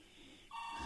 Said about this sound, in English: And there's the phone call.